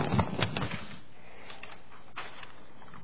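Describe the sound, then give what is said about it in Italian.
Pages of a book rustle and shuffle as they are fumbled and turned, a dense flurry of crinkling at first, then a few softer, scattered flicks. “questo è soltanto che non riesco a girare le pagine, ma ci arrivo.”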